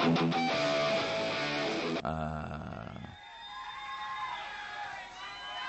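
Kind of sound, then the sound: crowd, audience applause and cheering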